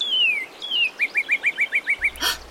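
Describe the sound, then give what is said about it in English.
A red cardinal in a tree sings two long, clear downward-slurred whistles, then a quick, steady run of about nine short repeated chirps, fairly loud, ending with a brief rustle. “Wait, did you hear that? I'm pretty sure that was a cardinal.”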